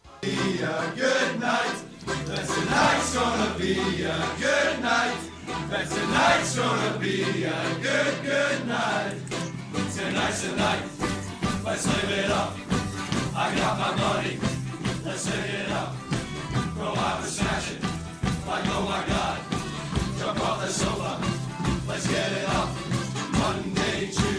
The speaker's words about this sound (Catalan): Són càntics enregistrats l'any 2018, sovint sota la pluja, perquè el temps, com dèiem, no acompanya.